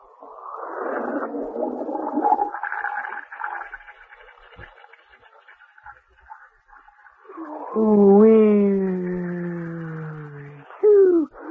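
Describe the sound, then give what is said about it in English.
A loud, breathy rush of air and spray bursts out at the start, like a whale spouting through its blowhole, followed later by a long, moaning tonal call. “Oh, know how we whales breathe? Oh, listen.”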